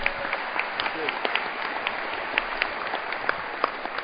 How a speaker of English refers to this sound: And you did really good marketing that windmill last year. So, well, you should give him a round of applause for that. It worked.